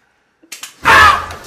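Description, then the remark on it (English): A couple of faint clicks, then a loud, sharp snap of a mouse trap springing shut as a blindfolded contestant searches for cheese among mouse traps, with what sounds like a startled gasp blending into it. “The blindfolded contestant must successfully find the cheese amongst all the mouse traps.”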